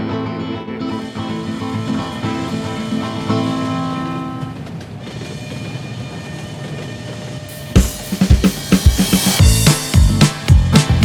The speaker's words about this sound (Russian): паровозик стук-стук-стук. Шпалы, рельсы, шпалы, мы с тобою, старый друг, снова мчим на нары.